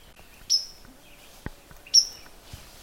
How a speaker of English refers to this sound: That loud note you hear, that's actually a white-throated sparrow. And they have that beautiful, beautiful song, that Oh Sam Peabody, Peabody, Oh Sweet Canada, Canada whistle song. But these are just more excited birds